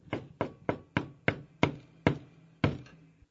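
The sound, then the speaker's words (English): A neighbor from next door knocks on a door, eight sharp raps in a quick, slightly uneven run that slows toward the end. The knocks are fairly loud, with a short resonant thud after each one and no voices. “And one day, the neighbor comes, knocks on the door.”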